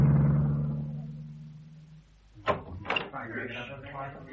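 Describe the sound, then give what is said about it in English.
A low, steady car engine hum idles in traffic and gradually fades away over a couple of seconds, followed by muffled voices and a few soft knocks. “Yeah, where does all this traffic come from?”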